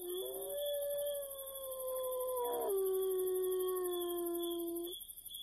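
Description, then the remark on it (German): A single wolf howls in a long, sustained tone that drops in pitch midway, then holds steady before fading, with a faint high-pitched hiss or insect buzz in the background. “Wolf.”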